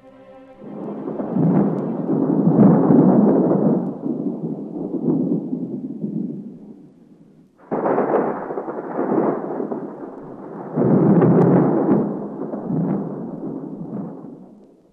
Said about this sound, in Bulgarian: завъртял се облак бял, после гръм и страшен тътен. И димът се разпилял.